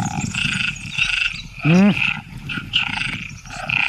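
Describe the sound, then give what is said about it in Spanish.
Tree frogs call in a dense, steady chorus of high trilling notes, broken midway by one loud, deep rasping croak that sounds almost like a growl. “Las hembras de ranas arborícolas tardan más en elegir pareja cuando oyen demasiados”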